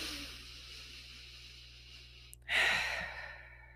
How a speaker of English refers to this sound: So right now with me, take a deep breath.